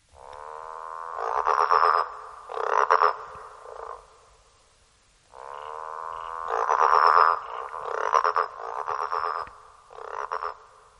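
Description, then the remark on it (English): A growling grass frog (Litoria raniformis, the green and golden frog), a Tasmanian frog species, gives a long, growling drone that breaks into throaty pulsed croaks, sounding twice in bursts with a brief silence between, fairly loud with no talking. “Next is Litoria raniformis, the green and golden frog or growling grass frog.”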